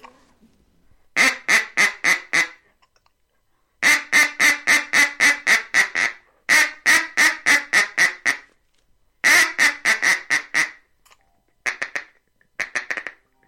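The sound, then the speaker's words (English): A brand-new duck call blown loud in a feeding chuckle: fast, rhythmic runs of clipped, quacking clucks, grouped into several bursts separated by short pauses. “That's a feeding chuckle.”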